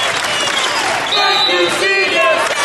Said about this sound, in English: and the crowd is on their feet, a standing O for the seniors as they will be playing their final home game here at Frail Court.